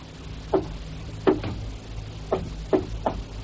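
Knocking on a locked door in a deliberate coded pattern, an agreed signal so the person inside knows who is there: about six sharp raps spaced unevenly, a single knock, a quick pair, then three more, over a low steady hum with no voices.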